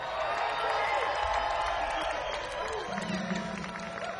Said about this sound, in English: round of applause for our vocalist